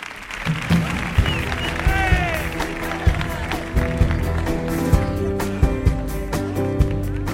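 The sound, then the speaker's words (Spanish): Sustained audience applause for a guest on Comandante Lara's show, a dense wash of clapping that lasts the whole stretch, mixed with steady tonal sounds underneath and a brief rising and falling whistle-like cry early on. “Venga, fuerte el aplauso para él.”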